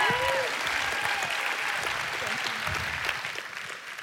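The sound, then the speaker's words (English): A crowd claps in a steady, dense round of applause for a woman invited up to share her story, lasting several seconds, fading slightly toward the end, with a few faint voices mixed in. “She's also the one that gets you into groups, so give her a round of applause as she shares her story.”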